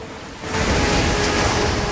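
rough sea waves

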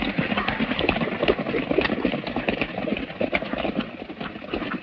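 horses riding away

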